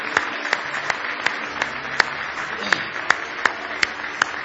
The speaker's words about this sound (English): Give the Lord a big hand clap of praise this morning.